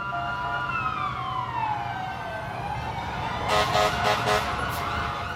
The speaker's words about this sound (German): Dauernd diese Notarztwagen-Sirenen. Oh, verrücktes Amerika, crazy New York.